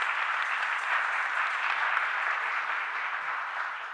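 A crowd claps steadily throughout, a dense, even wash of many hands with no pauses and a slight fade toward the end. No voices stand out over the applause. The crowd claps their hands to praise God.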